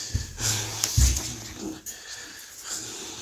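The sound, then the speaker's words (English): A loud, drawn-out yawn, a low voiced groan with breathy, wheezy air that swells for about a second, then fades into quieter breathing and faint background noise. “Yawning is from shaitan, and that noise, you know, even if he's locked up, I don't know what's happening there.”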